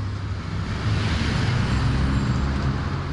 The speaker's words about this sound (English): It's time to drive out for your shopping trip.